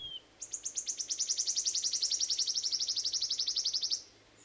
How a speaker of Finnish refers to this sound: Sirittäjän laulusta ei juuri voi erehtyä. Vuoriuunilintu on tosin hiukan samanlainen, mutta se on sen luokan superharvinaisuus, ettei sitä tarvitse ensimmäisenä epäillä. Sirittäjä se on.